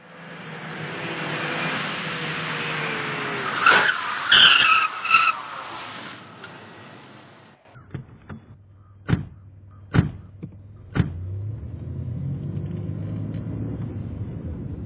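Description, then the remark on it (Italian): A taxi rushes in with a loud, rough engine roar and screeching tires skidding to a halt, followed by a low idle and three sharp clunks, evenly spaced. “Proprio in quel momento giunse un taxi.”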